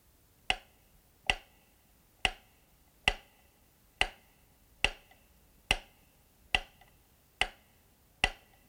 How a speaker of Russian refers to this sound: Сейчас удары метронома будут переданы по обоим каналам одновременно,